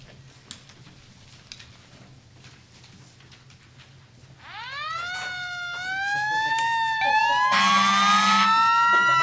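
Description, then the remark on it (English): Sirens of two fire engines and two police cars heading to a fire wail in after a quiet stretch, their rising tones growing louder until several sirens overlap in a blaring chorus. “It was a terrific fire. Two engines and two police cars and all the volunteer firemen”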